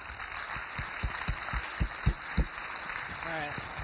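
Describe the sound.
A short burst of applause: about ten sharp, evenly spaced claps at a slow, steady rhythm over a low background hum, fading as a voice briefly starts at the end.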